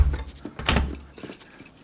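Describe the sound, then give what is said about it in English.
A door swings shut with a solid thud, accompanied by a brief metallic rattle like a latch or keys, followed by faint shuffling. “Close the door.”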